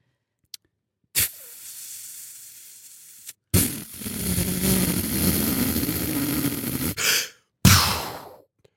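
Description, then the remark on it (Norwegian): Heavy, ragged breathing of a person worn out after physical exertion: a few long, noisy exhales and sharp gasping intakes, loud and breathless, with no talking. “Jeg pustet gæren så jeg kjente at jeg hadde ikke mer igjen”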